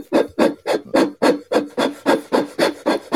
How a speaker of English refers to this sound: Yeah, who is blowing inside a toilet paper tube?